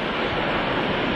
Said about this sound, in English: I am currently soaking wet, sitting near a beach. You might be able to hear the beach in the background.